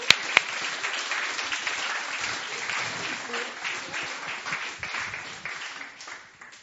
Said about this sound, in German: Mit einem herzlichen Applaus.